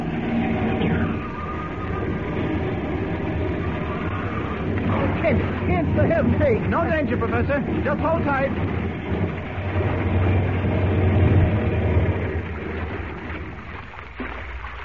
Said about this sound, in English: Well, we'll land. I'll put the plane down in the water close by. All right. Here we go.